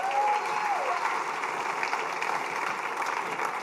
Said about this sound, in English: Give a round of applause for our security team.